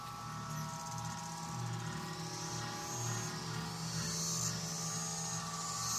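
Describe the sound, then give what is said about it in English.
A dense, unbroken chorus of periodical cicadas drones steadily throughout, a loud layered whine that swells slightly without pause, with a low rumbling hum underneath and no voices. “This week we're going to be meeting people whose work touches on the broods, and we start today with a taste of the voices, calls, and other sounds of our cicada safari.”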